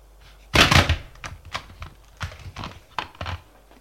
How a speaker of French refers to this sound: On frappe à la porte.